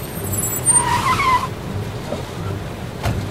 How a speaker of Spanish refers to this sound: y de repente llegaron dos autos al lugar.